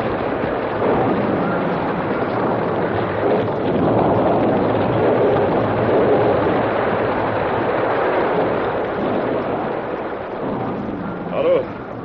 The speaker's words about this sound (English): That's not thunder. It's a blast. Get back. Hug the wall. Look out for those rocks.